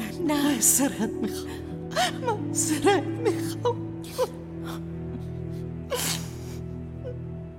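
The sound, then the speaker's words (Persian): A woman cries and sobs, with shaky whimpering tones broken by sharp gasping breaths in an uneven rhythm, over a steady low background hum. “گریه نکن مامان.”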